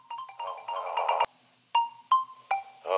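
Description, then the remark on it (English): A phone app notification alert: a quick, bright run of electronic chime tones and a sharp click, then several single beeps spaced apart. It is loud, with no voices. “I felt it. The Hero app notification.”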